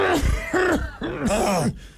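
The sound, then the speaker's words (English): A voice imitates a guttural, choking cough, like choking on spit on waking up, in several loud, rough bursts with gurgling, wet throat sounds, lasting about two seconds. “You get that guttural cough. Yeah. Because you've been just letting a pool of spit.”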